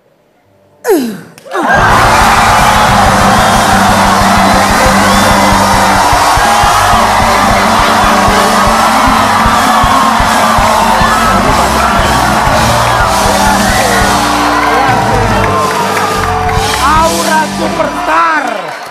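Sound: audience cheering and whooping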